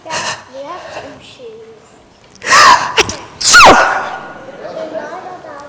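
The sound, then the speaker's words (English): Two loud, sharp sneezes burst out about a second apart, following some quieter vocal murmurs and soft background noises. “Did you really sneeze, Mom?”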